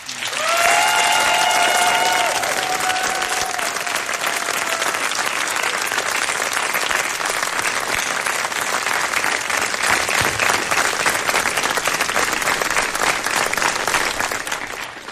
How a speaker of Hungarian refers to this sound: Hála érte, hála értük is, megérdemelnek egy jó nagy tapsot.